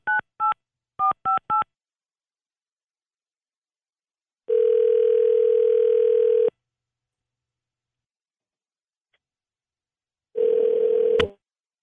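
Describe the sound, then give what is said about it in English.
A quick run of five touch-tone dialing beeps, followed by two long, steady phone-line tones separated by a pause of silence, the second ending abruptly with a click. No one speaks. A radio station, 93.1 Jams, is dialing a listener live on air for its Second Date Update segment. “We're going to dial Amy up right now.”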